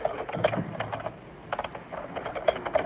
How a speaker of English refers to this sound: Some fast typing.